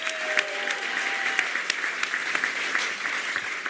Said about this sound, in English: Let's have a round of applause for our fallen hero, Scott Bennett, everybody.